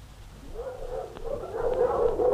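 A pack of sled dogs kept by Yakut villagers, not big but strong draught dogs, yelps and yips together, with drawn-out whining cries underneath and a few sharp barks. The chorus swells louder toward the end, with no talking.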